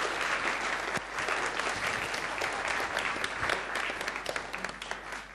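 A church audience applauds, a steady wash of many hands clapping for about five seconds at a fairly even level, with scattered sharper claps and no one speaking.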